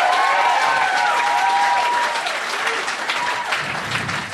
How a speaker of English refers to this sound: Feel that little breeze from that applause. Isn't that nice? It's real nice.